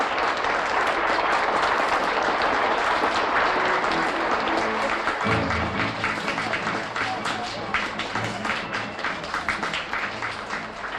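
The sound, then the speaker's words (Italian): Loud, frantic applause from a large crowd as someone enters a palace through the great gate, dense rapid clapping filling the whole clip, with a murmur of voices and a low rumble joining partway through. “Entra in palazzo dal gran portone tra gli applausi frenetici della folla.”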